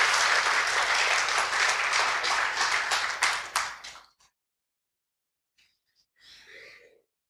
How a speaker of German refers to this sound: Ach so, und seid ihr so nett und klatscht? Ja, danke.